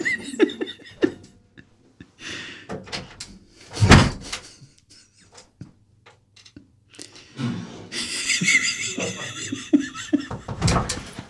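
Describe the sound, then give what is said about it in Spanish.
A door is banged and yanked hard, with a series of loud thuds, a big slam midway, and rattling jolts that cluster and intensify toward the end. “Pero no arranques la puerta, joder.”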